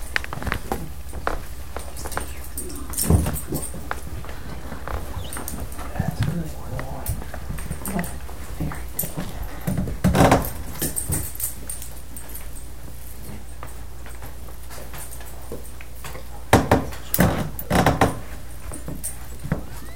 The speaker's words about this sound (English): May I switch chairs with you then, because I need the lower seat. Excuse us, everyone, while we shuffle just a little bit.